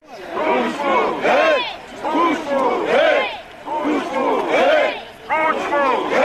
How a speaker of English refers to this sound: Crowds of angry demonstrators took to the streets of the Ukrainian capital Kiev just over 10 years ago, following the news that one of the country's most popular journalists had been murdered.